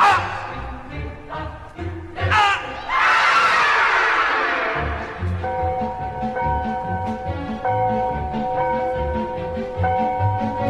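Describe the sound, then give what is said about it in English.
A person lets out a loud, drawn-out scream for help of about two seconds that rises sharply and then trails off, followed by steady music playing underneath. “You better scream real loud. You better scream real loud. Yeah, I'll scream for help.”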